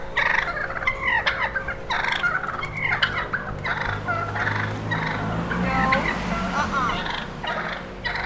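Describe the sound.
Several wild turkeys on a street gobble over and over in rapid, overlapping bursts, fairly loud, above a low steady outdoor rumble, as a woman guides them away from some children; a person speaks a single brief word.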